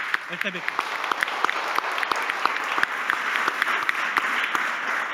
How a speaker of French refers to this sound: Applaudissements